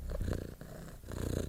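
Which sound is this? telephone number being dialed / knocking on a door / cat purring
cat purring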